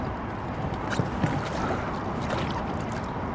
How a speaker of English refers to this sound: What I do is I sit on the dock, put my feet in the front compartment, and then turn while holding myself and trying not to let the boat hit the dock, of course. And then slowly lower myself into the boat.